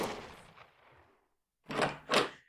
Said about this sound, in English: Oh, no! Did y'all hear that? There were several gunfire shots from the hayloft.